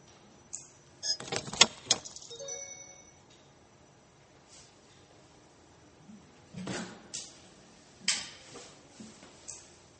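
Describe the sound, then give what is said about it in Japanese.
A chair is shifted aside, a quick cluster of knocks and scrapes, then after a quiet pause a few more bumps and clatters against a hushed background. “椅子がありますけど、椅子はいらないので。”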